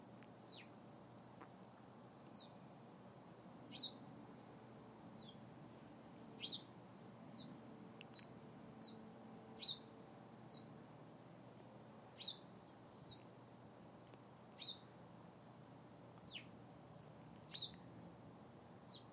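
Small birds flit and chirp in a tree in the next-door neighbour's yard, with short, high, bright calls repeating every second or two over a low steady hum of background noise. No one speaks.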